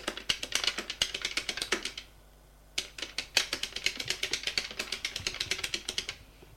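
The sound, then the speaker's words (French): Rapid clicking of keys on a computer keyboard, two quick bursts separated by a short pause, fairly quiet with no voices. “Il tape sur son ordinateur.”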